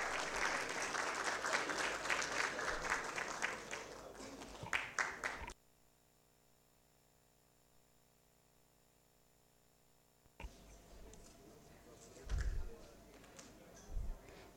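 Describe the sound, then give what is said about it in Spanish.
Loud crowd applause as a team's staff members are called up one by one, with dense clapping for about five seconds, then an abrupt near-silent gap, followed by fainter scattered clapping and a few sharp thumps toward the end. “Convocamos a Mística Arvinia Galdés, asistente técnico. Fuerte los aplausos.”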